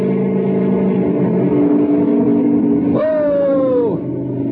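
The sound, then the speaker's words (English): A loud helicopter engine drones steadily, then is revved for stability into a sharp, higher whine for about a second as the helicopter lifts straight up, dominant throughout. “I'm going to have to rev it up for better stability. Here we go. How's it look? Fine. I'll take the copter straight up.”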